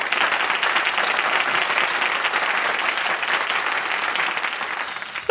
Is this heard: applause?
yes